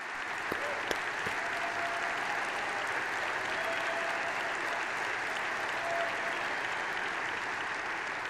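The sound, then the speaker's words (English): Sustained audience applause for President Trump formally recognizing Israel's sovereignty over the Golan Heights, a dense, even wash of clapping from a large crowd that holds steady at full strength for several seconds without letting up. “Now that deserves enormous applause.”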